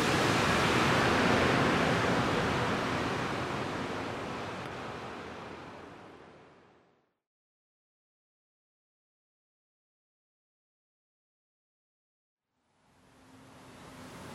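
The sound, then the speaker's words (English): Steady, dense hiss of rain falling on the street at night, heard from inside, loud and unbroken at first, then fading out into silence for several seconds before the rushing rain sound returns near the end. No one speaks. “That nice rain sound.”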